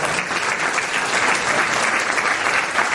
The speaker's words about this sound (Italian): E i ragazzi mi hanno chiesto una cosa, che voi recepiate un grandissimo applauso che hanno dato a me, che io vi giro qui.